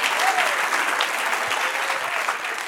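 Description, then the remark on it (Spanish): An audience claps steadily throughout, a dense, even wash of applause that stays fairly loud from start to finish, with a faint voice or two rising briefly above it. “Dale otro aplauso, Señor.”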